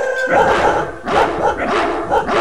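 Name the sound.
dogs barking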